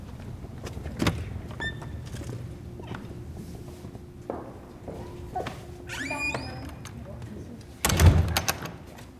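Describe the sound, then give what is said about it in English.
The main entry door of the Swan House opens as people enter for a tour, with a couple of clunks, a squeaky creak, and a heavier thump near the end, set against a low rumbling background and faint indistinct voices. “Okay, we'll go in the main door.”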